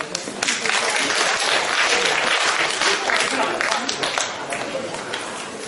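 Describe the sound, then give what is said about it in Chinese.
A crowd at a xiangsheng (Chinese crosstalk comedy) show applauds steadily throughout, a dense, even wash of many hands clapping at a consistently loud level for several seconds. “感谢您大伙的掌声。”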